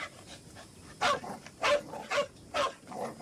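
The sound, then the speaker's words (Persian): A dog barks four times in quick, uneven succession, sharp mid-pitched yaps at moderate volume, with a softer yip trailing at the end and no one speaking. “اینو ببین، یه غذای خوشمزه، همه یه سگو دوست دارن.”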